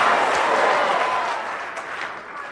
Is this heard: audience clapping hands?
yes